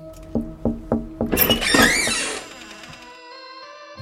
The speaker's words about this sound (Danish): Ja, så prøver jeg bare at banke på.